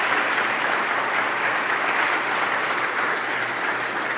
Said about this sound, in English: You can give him applause. He deserves it.